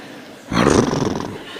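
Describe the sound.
A single loud, rough roar imitating a tiger bursts in after a brief quiet moment, holding for under a second before trailing off into a lingering rumble.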